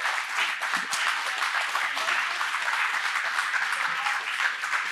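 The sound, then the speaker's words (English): Steady audience applause, one more round given to thank a group of women, a dense wash of many hands clapping at an even, sustained loudness for the full five seconds, with no clear voices standing out. “And so and just thankful for them, and just want to give them one more round of applause and say thank you.”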